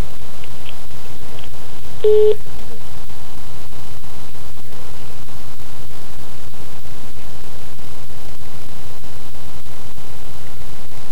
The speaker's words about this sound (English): Hang on just a second, my phone's ringing. Alright, yeah, so is mine.